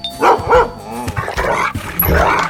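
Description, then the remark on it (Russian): A dog, Altai, barks twice in quick succession, loud, then keeps vocalizing with shorter yips and whiny barks through the rest of the moment, with no one speaking. “С вами снова я, Михаил Гаврилович, детский врач на пенсии, и мой верный пес Алтай.”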